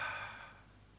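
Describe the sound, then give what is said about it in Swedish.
A single soft, breathy exhale into the microphone, a quiet puff of air breathed onto someone, fading away over about half a second, with no talking. “Varför andas han på dem?”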